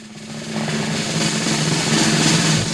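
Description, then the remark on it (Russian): A sustained drum roll, a tremolo of rapidly alternating single strokes blurring into one continuous rattling rumble that swells slightly louder over its few seconds, with no voices. “Что такое барабанная дробь, вы прекрасно знаете.”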